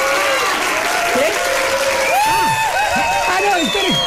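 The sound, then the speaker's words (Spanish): A large audience of the Radio Ombligo show claps steadily throughout to send off the guest musicians, dense and loud, while scattered whoops and whistles swoop up and down over the applause. “Vamos a despedirlos con un aplauso.”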